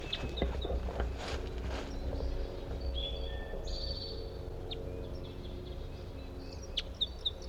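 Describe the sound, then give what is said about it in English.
A male bird sings in short, high chirping phrases scattered over a steady low rumble, with a few sharper sweeping notes toward the end; nobody speaks. “I'm gonna try to record a different bird. I think there's a male.”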